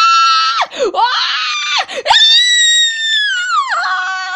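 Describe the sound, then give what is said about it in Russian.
A cat named Zorka screeches in pain while giving birth, loud, in long shrill wails that waver and dip in pitch with a few short breaks between cries. No one speaks. “Кошка его не слышала. Она дико визжала в страшных болях.”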